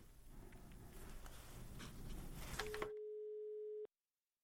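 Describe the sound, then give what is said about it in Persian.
Noisy telephone line hiss and rustle give way to a steady, clear electronic tone, held for about a second before it cuts off abruptly into silence, as a caller's telephone connection to a radio studio drops. “تلفن تان بخیلم قطع شد، مشکل.”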